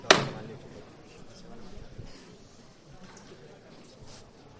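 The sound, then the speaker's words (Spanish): A single sharp, loud knock of the hammer on the processional float of the Cautivo del Tiro on Holy Monday (Lunes Santo) rings out at the start, followed by a steady low murmur of a crowd. “Escuchamos el martillo del cautivo del tiro.”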